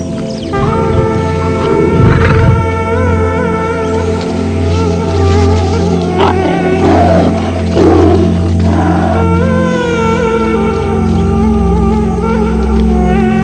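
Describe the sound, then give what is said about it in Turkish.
A lion roars and growls loudly at a mother cheetah that has thrown herself in front of it, with several rough bursts over about thirteen seconds, set against a steady droning background. “Ve anne çita hiç düşünmeden kendini aslanın önüne atar. Hayatını tehlikeye atarak aslanın dikkatini kendine çeker ve yavrularına kaçmaları için zaman kazandırır.”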